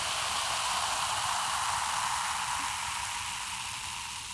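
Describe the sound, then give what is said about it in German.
Steady, bright fizzing hiss of carbonated lemon lemonade, like bubbles rising in a freshly poured drink, continuous, slowly easing off toward the end with no voices. “Zitronenlimo, vielleicht sprudelt die ja aber auch.”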